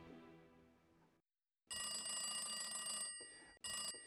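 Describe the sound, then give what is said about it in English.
An old party-line telephone bell rings loudly: one long, sustained ring, then a brief pause and a short burst, with no voices. “Our ring was a long and three shorts, and that's what differentiated people. They knew when it was their ring that the phone was for them, but everybody else went to the phone as well.”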